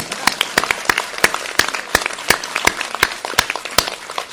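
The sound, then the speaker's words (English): An audience in Hong Kong applauds the Asia Society, with sharp, crisp claps scattered over a steady wash of clapping, the sharp hits landing irregularly and fairly loud for several seconds. “Now you can clap.”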